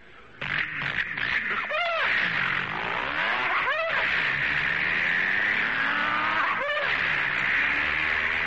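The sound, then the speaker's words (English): A loud hot rod engine with a four-speed stick shift revs hard and accelerates down the road, its pitch climbing and then dropping at each of several gear shifts before it settles into a sustained high whine. “Now, he takes off down the road. This is a hot rod duck hunter. Four speeds forward, stick shift.”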